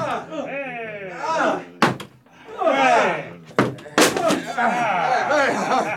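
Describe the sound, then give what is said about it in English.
Heavy wooden thuds of a battering ram strike a door three times at uneven intervals, loud, while several people keep talking and shouting over and between the blows. “Open up or I'll break the door down! All right, men! Bring the battering ram!”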